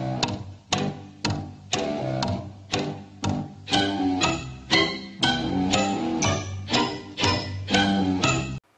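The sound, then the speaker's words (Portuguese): A steady, loud tick-tock of a clock, sharp clicks falling at an even half-second pace, with a ringing tonal layer sustained underneath and no voices; the ticking is said to come from a crocodile in the water. “O terrível tic-tac do crocodilo.”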